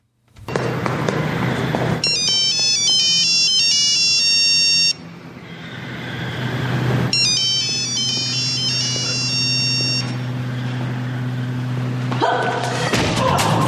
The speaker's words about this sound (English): The gunman on foot runs towards the sound and only finds a cell phone on the floor.